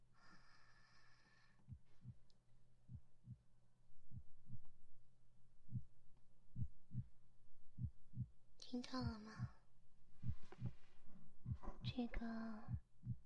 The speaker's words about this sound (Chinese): 然后呢，再把这个听诊器放在我的胸口， 还把这个带上。带上这个听诊器呢，老师让你听听我的心跳。